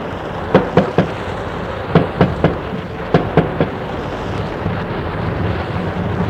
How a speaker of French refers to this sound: On frappe à la porte.